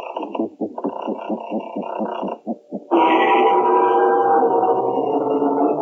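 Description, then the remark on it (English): A door creaks open, the opening sound of the radio programme The Creaking Door, starting with a run of rapid, stuttering creaks, then swelling into a long, loud, drawn-out groan that holds steady to the end. “Through the creaking door.”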